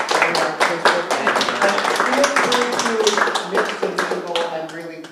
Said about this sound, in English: So we give them a round of applause.